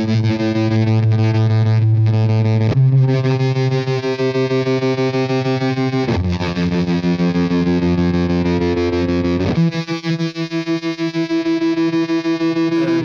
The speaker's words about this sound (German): Das ist so ein, ja, eine sehr, sehr, eine, also so sehr verzerrte Gitarre, dass sie schon fast wieder ein bisschen weich klingt. Und vor allem werden die Töne dadurch so wahnsinnig lang, ne?